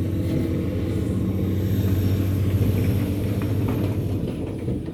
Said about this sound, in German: Ganz schön Verkehr her.